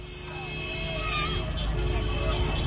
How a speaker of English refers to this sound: In Bissau, cars whizzed past the presidential palace on New Year's Day, honking and waving the signature red and white scarf of candidate Umaro Sissoko Embalo.